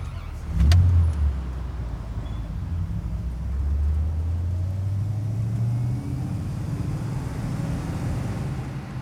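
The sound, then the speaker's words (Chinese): A car engine starts up with a brief clunk, then a steady low rumble climbs in pitch as the car pulls away and accelerates, setting off to drive home, fairly loud, with no talking. “记得第一次坐你车的时候，你才刚刚拿到驾照”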